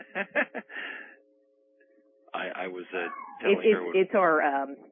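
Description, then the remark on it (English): A small pet dog lets out three quick, sharp yaps, trailing into a brief whine, then a few seconds of quiet before people start talking. “It's our live alarm system. If someone knocks on the door, the alarm system goes off.”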